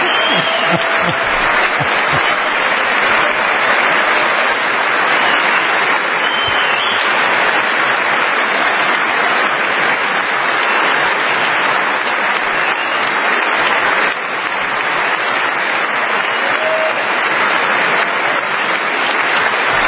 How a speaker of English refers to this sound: Well, it's nice to see even the Dems got up to applaud those men. That was nice.